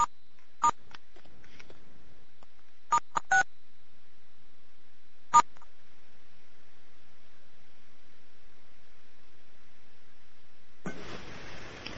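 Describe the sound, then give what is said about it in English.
Short telephone keypad tones from pressing star 6 to mute a phone on a webinar call beep a handful of times at uneven intervals over a quiet line, followed near the end by a sudden burst of hissing static. “You can press star 6 if you don't have that button on your phone.”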